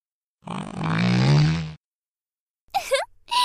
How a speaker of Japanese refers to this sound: 君が息するタイミングでとっておきなの出しちゃった。私のおならの匂いと3日間熟成されたムレムレの匂いがブレンドされた空気を吸う気分はどう？